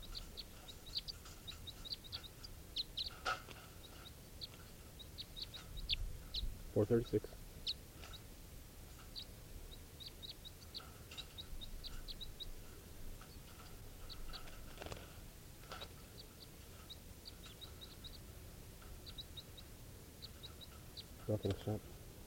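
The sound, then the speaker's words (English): Short, high-pitched calls of bird number 436, recorded during testing, repeat in a steady, fairly quiet series throughout. A few louder low thumps or rustles break in along the way. “Now testing bird 436.”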